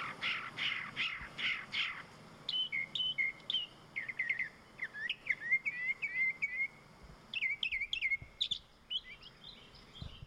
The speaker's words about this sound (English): there's an actual YouTube channel now for the bird sounds at Augusta National. So maybe we could play a little bit of that